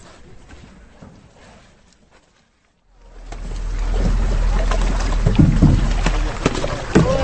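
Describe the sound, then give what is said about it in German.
Fishing boats and a net work through a carp pond toward the shore during a carp harvest, with sloshing and knocking against the hulls over a steady low engine rumble that starts after a brief quiet moment, fairly loud. “Boote und Netz nähern sich allmählich dem Ufer.”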